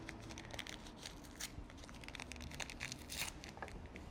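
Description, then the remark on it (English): A small sealed paper sugar packet is torn open during a magic trick, giving a run of crisp, crinkly rips and rustles that flicker on and off for a few seconds over a low, steady background hum. “Go ahead and inspect that sugar packet one more time.”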